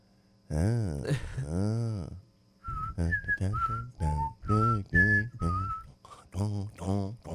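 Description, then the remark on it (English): Someone whistles a short, halting tune in breathy notes, with voiced humming sounds blended in. The attempt is uneven, starting and stopping over several seconds. “I can't whistle.”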